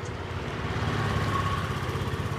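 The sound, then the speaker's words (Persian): A motorcycle engine idles steadily at night in front of a house, its low, rapid putter holding an even rhythm throughout with no revving and no voices. “شب مشفق با موتور اومده جلوی خونه یه نرگس”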